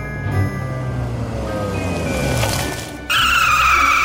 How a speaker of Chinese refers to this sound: 汽车紧急刹住，两名男人从车内窜出，左右包抄朝护士追去。